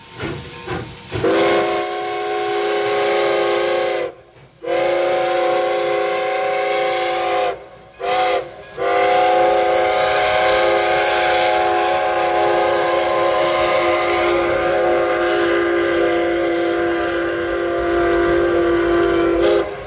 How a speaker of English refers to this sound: That is the Moose Gooser, a little antique steam railroad train in Anchorage. It was put into operation as a special attraction in the spring of 1967 and has become one of the talking points of the city.